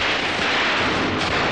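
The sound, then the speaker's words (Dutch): A dense, continuous barrage of fireworks, many bangs and crackles blurring into one loud, steady roar with no gaps and no voices. “Hij draait met dat vuurwerk hard, hoor.”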